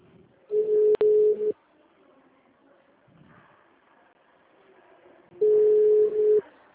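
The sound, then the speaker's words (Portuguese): A phone call rings out unanswered until it drops: two long, steady, low-pitched ringback tones, each about a second, separated by a pause of roughly four seconds, with only faint background noise in between. “Nossa, ninguém atende, Jesus.”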